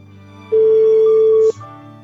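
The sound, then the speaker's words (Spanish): A single steady electronic ringback tone sounds loud and clear for about a second over a faint low hum, then cuts off, like an unanswered phone call ringing on the line. “Yo creo que se ha dejado el móvil en casa, ¿eh? Porque televisión, en televisión dice más o menos que a los 5 tonos, ¿no?”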